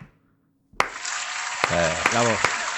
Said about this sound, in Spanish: No me acuerdo dónde están los aplausos. El último. El último.